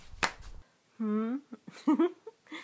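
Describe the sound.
The elastic band at the top of a black stocking snaps once against skin, a single sharp smack near the start, followed by a drawn-out voiced moan and a few breathy vocal sounds.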